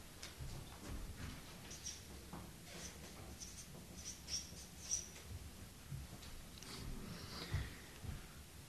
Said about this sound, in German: Und deswegen schreibe ich jetzt Friede hin.